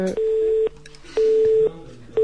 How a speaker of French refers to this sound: Ah, on entend toujours le téléphone là.